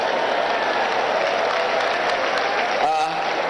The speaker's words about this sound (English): No, you are only clapping. You are not telling me you're okay.